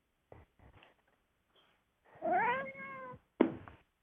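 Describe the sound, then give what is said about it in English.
A cat lets out one drawn-out meow, clear, with a rising then falling pitch. Soft thumps and rustles come before it, and a short scuffling noise follows. “All right, and welcome all the cats.”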